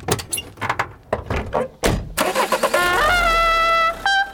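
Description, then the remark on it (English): A few clunks and rattles, then a car engine cranks and catches for a road trip to Clayton, New York, settling into a loud, steady running hum with a rising whine as it revs briefly. “You kids, get in the fucking car.”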